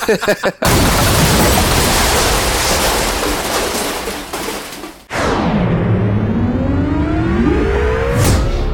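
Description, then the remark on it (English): A massive explosion erupts and roars loudly for several seconds, then gives way to sweeping, whistling tones over a lingering rumble. No one speaks. “put in the biggest explosion sound file you can find right here.”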